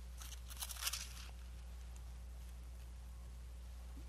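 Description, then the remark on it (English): A short flurry of Bible pages being turned by an audience flipping to chapter 6, several soft crinkly rustles overlapping for about a second, then quiet with a steady low hum. “Well, sounds good to hear all them papers rustling.”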